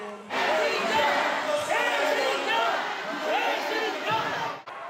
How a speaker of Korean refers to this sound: 고개 숙여 인사하는 순간부터 쏟아진 건 야유였습니다. 배신자 구호가 이어졌습니다.